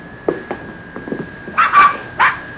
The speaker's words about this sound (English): Hey, look! Puppies! Yeah. Oh. That darn Rube, he went and had himself a batch of puppies.